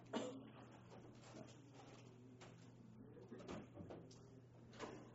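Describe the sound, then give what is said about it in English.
A door being opened, with several soft clunks and scraping knocks over a few seconds against a steady low hum, moderately quiet, with faint muffled voices in the background. “Can you open the door for this?”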